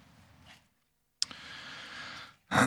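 Rustling of Bible pages being flipped to the Epistle to the Romans, chapter 9, with a soft brush, then a sharp snap into a longer papery sweep, and a final louder flick, with no voices.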